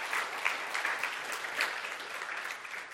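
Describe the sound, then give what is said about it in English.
An audience at Grace Church claps for someone who has said yes to Jesus, a dense wash of many hands with bright, scattered individual claps standing out, continuing at an even level for the whole stretch before easing slightly at the end. “So I'd love, yeah, we can clap.”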